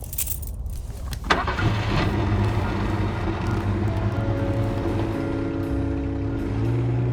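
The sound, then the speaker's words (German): A brief clatter is followed by a new car's engine cranking and catching, then a steady low rumble as the car pulls away and keeps driving south through a city, with the engine revving gradually higher. No one speaks. “Und so fuhren wir.”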